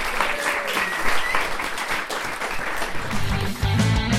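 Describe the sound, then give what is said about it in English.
A crowd applauds steadily, a dense wash of clapping hands that stays loud and even throughout, with a few whoops and cheers rising over it near the end. “Round of applause for that round.”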